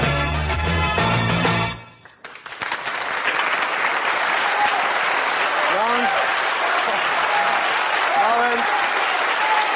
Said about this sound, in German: Nein, also mit dem Beifall immer kurz fassen, weil wir müssen wirklich pünktlich fertig werden. Lieber am Schluss richtig und einmal.